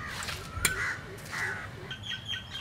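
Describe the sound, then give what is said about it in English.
Crows caw in the trees at a leprosy hospital in Hendla, near Colombo, Sri Lanka, in repeated harsh bursts, several calls spaced irregularly over an outdoor background, with a faint sharp knock partway through. “The soundtrack at this asylum isn't really music, it's crutches hitting stone and crows in the trees.”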